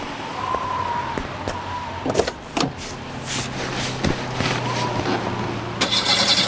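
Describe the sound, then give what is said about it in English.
A car engine, being started again after it has cooled, is cranked and turns over amid a few sharp mechanical clicks, then settles into a steady low rumble with hissy background noise; no one speaks. “I think engine has cooled now. I'll try again.”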